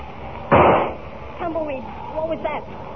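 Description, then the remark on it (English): A single sharp gunshot, fired at Lightning, cracks out and its roar fades over a fraction of a second, followed by a man's voice speaking briefly afterward. “I heard a shot, Tumbleweed.”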